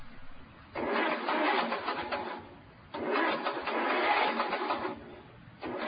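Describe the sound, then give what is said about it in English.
A car engine in New Jersey cranks over and over without catching, its engine apparently broken: two long grinding starter bursts with short pauses between, then a third attempt beginning, loud with no voices. “I think my engine is shot. This is not good.”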